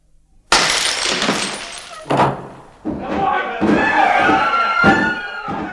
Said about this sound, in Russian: Не ломайте дверь!